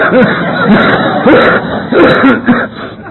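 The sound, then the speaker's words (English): A person with walking bronchial pneumonia or bronchitis coughs and clears their throat several times in quick succession, fairly loud, with rough bursts repeating over a few seconds and no talking. “I got some walking bronchial pneumonia or bronchitis. I don't know what it is.”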